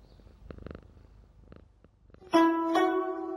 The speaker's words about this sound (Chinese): 今天对话的一开始呢，我们就听到这只猫咪好像很亲人。